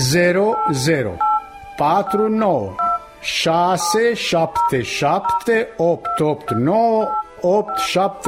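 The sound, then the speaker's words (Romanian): Telephone keypad tones beep in quick succession as a number is dialed, with a voice talking over them throughout. “Ține-l închis, scoate telefonul și fă numărul pe care ți-l spun.”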